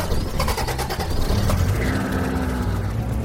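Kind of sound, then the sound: vehicle, car engine starting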